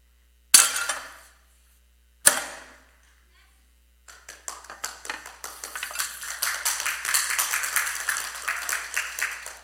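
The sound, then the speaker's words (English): Two sharp, ringing taps sound a couple of seconds apart, then a crowd breaks into applause that swells steadily and keeps going to the end, dense and fairly loud. “I wouldn't applaud. Seriously, I wouldn't applaud.”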